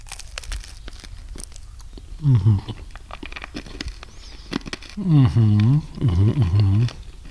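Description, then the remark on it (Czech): Crisp crunching from someone biting into and chewing crunchy caramel florentine cookies with chocolate, candied fruit and raisins, with repeated sharp crackles, interrupted by a few short voiced murmurs of appreciation. “Tam je karamel, čokoláda, křupeto, šťavnato z toho kandovaného ovoce i těch rozinek.”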